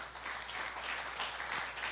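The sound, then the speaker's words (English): An audience applauds steadily as a clap offering to God, a dense wash of many hands clapping at once, sustained, with no voices rising above it. “Let's give Him a clap offering for that.”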